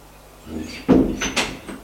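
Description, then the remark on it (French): A door is opened and shut as a police officer enters a room after knocking: a soft rustle, then a solid thump followed by a second, lighter knock as it settles, with no one speaking. “Il entre.”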